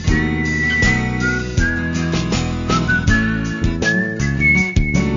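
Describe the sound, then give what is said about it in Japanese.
Bright acoustic guitar strums and plucks a steady rhythm while a clear, live whistled melody glides over the top, upbeat and close, with no voices. “うららかな日差しをイメージさせるアコースティックギターと生演奏の口笛。”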